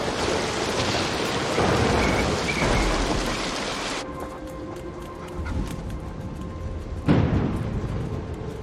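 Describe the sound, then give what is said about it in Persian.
Steady heavy rain pours down throughout a storm, with deep rumbling thunder rolling underneath and a louder crack near the end; a dense downpour with no voices. “نه وقت نداریم، نمیتونیم تو طوفان بمونیم.”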